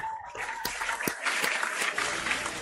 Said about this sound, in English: Ain't no women clapping. Look at it.